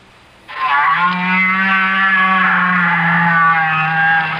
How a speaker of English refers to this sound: If you agreed with these guesses, you've been fooled. Because each sound was made by a whale. That's right, a great big blubbery old whale just buzzing and clicking and grunting away deep down in the ocean.